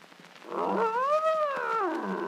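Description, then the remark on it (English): A bear lets out one long, drawn-out roar that swells and falls in pitch, loud, with no one talking over it. “Nice bear. Good old bear.”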